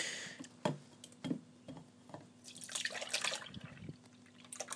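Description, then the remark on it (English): Liquid for homemade yogurt being poured into a makeshift container used as a jug, with irregular splashing and dripping, a few sharp taps of the container mixed in, fairly quiet, with no one speaking. “Right, I'm just going to pour this into my makeshift jug, which isn't a jug at all.”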